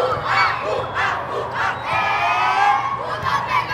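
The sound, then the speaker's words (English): A loud, unbroken din from a cavernous basement room of the Walter E. Washington Convention Center, where 75 volleyball games of the Capitol Hill Classic are played at once: many voices shouting and cheering at once, overlapping into a dense roar with no distinct words. “Washington Convention Center, this cavernous room has 75 games all at once.”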